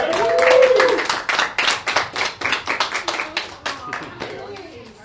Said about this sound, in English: Pizza and soda, and a little gift for you to say thank you for supporting People's Rights Group. Everyone, can we give them applause, please?